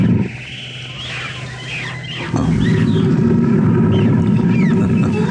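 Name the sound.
lion roaring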